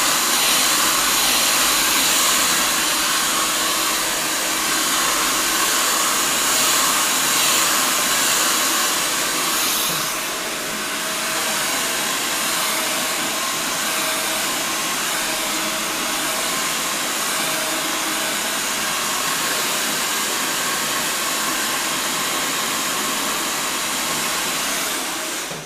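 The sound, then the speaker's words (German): A hair dryer blows steadily and loudly while someone's hair is being blow-dried, a constant airy whoosh with a faint motor whine that shifts slightly midway, running without pause and with no voices. “Wir müssen uns mal überlegen, wenn wir das beim nächsten Mal machen mit dem Föhnen, ob wir da nicht einfach jemandem anbieten, hier könnte ihre Werbung so da reinlaufen, während du föhnst oder so.”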